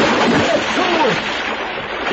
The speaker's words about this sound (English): Oh! Yeah, someone's jumped in a pool. Did you hear the splash? Well, of course I did.